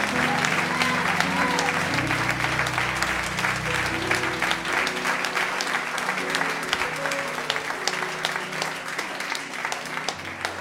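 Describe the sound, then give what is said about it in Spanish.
An audience claps steadily for about ten seconds, a dense, sustained patter of many hands at an even loudness, with a soft murmur of voices underneath, applauding the teachers who instruct the children at a church. “¿Qué le parece si le damos un excelente aplauso a estos maestros que están haciendo una obra maravillosa?”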